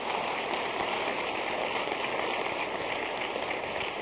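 A crowd applauds as a clap offering for the Lord, in a steady, dense wash of clapping that holds at an even loudness for about four seconds, with no voices standing out above it.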